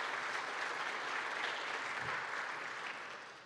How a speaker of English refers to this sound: Would you give Brad a big round of applause and thank him for being here today? It's a good message.